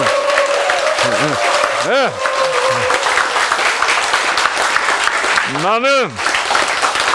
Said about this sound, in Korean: 그래서 여러분도 자, 내 남은 여생 어떻게 살자? 행복하게 박수 치면서 살자.